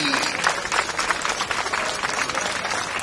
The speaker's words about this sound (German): Bringt die Prachtexemplare auf die Bühne! Applaus für unsere Zucchini!